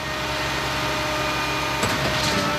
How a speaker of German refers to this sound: Im Hintergrund ist Baulärm zu hören, aber nicht zu sehen. Denn die Baustelle, auf der schicke Wohnhäuser entstehen, liegt hinter einer hohen Wand.